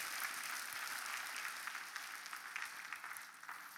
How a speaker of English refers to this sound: You worship the Lord and see what God can do in your life. Come on, give the Lord a hand clap right there.